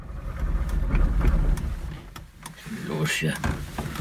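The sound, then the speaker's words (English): An old East German car's engine, hard to start at first, finally turns over and runs with a rough, low rumble, punctuated by several sharp clicks and clanks, while muffled voices come in toward the end. “At first, we couldn't get his old East German car to start. But then, finally, the motor started running.”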